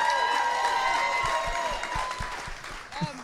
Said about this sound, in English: Guys, please, a round of applause for Liz Merriweather.